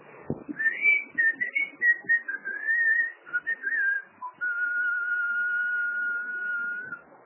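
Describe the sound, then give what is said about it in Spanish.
A person standing at the door of a house whistles a short wavering tune, sliding up and down, then holds one long steady note for several seconds. Fairly clear, with no talking. “Y chiflo un poco.”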